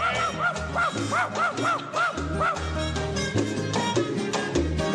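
A female dog barks in a quick, steady string of about seven sharp, loud barks over a busy, dense background of other sound that keeps going after the barking stops.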